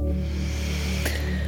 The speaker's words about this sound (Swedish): Andas in.